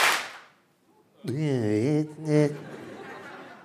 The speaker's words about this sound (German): Wir machen 1, 2 und dann klatschen wir. Einmal nur. Ja, nur einmal, nur so, zack.